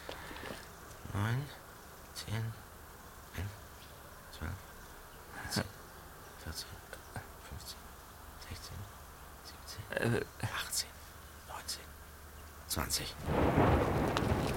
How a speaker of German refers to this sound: 21 Sekunden. 7 Kilometer. Mal sehen, wie lange es beim nächsten Mal dauert. Dann wissen wir, ob das Gewitter in unsere Richtung zieht.